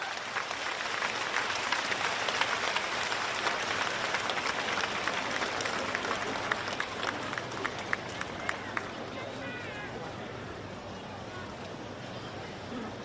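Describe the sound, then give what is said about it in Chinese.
A large audience applauds steadily and loudly for over ten seconds, a dense wash of clapping with a few sharper individual claps standing out before it gently thins toward the end, welcoming radio director Lu Junhong to read totems. “下面让我们用最热烈的掌声恭请尊敬的卢军红台长为我们慈悲看图腾。”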